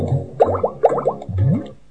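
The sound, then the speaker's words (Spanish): A game ball splashes into water: three quick bubbly, gurgling plops in succession with rising warbly tones, electronic-sounding, with no voices. “Se fue, se ahogó.”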